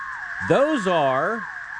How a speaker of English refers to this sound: Those are cicadas. Are you serious? Yeah, that's a bunch of that cicadas. Like I thought that was a tornado it alarm. It does. It sounds like that, doesn't it? Sounds like an electronic cicada. Yeah, it does.